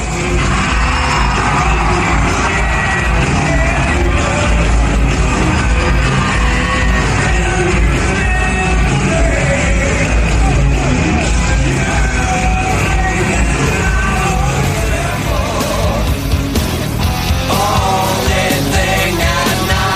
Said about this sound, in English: just as … started singing, the curtain dropped and the entire crowd went wild